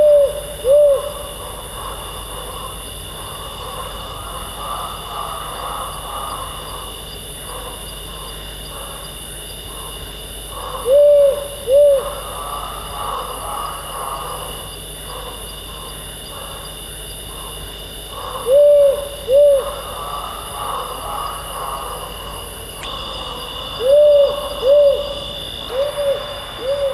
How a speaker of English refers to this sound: seeing as your dad reckons that there could be powerful owls about in your neighbourhood, just in case you hear it, they sound like this.